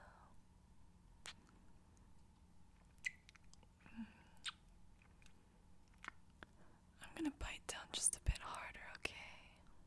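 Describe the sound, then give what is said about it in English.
Quiet ASMR nibbling mouth sounds on an earlobe: soft wet clicks and smacks scattered through, growing into a denser cluster of crinkly, breathy nibbles toward the end, with faint whispery breath underneath. “Now I'm just gonna lean down and nibble on your earlobe.”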